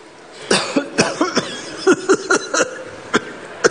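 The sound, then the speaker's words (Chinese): A person puts on an exaggerated, theatrical coughing fit, a rapid string of about a dozen harsh coughs in uneven bursts, performing the cough of a gravely ill TV-drama character who coughs up blood. “啊，这没有，我不能真咳出血来，我死这儿了一会儿，眼巴巴还看着呢啊！”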